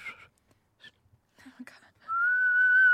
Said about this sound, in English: I did a little whistle. That was good, yeah. Thank you, really good.